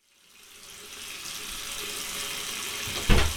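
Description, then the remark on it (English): Steady rushing water pours from a tap into a bathtub, running a warm bath, a broad hiss that swells in over the first second and holds even, with a brief louder splash or clunk near the end. “The water's almost ready.”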